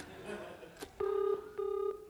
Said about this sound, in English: I can hear a phone ringing in your warehouse.